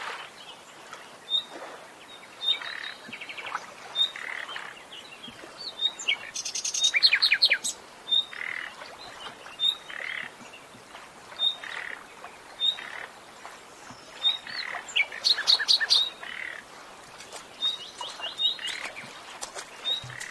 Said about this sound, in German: Hörst du diese platschenden Schritte dort?